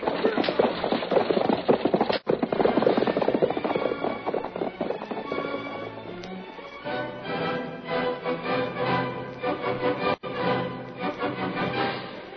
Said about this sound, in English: Get them horses going. We got to get to the next town.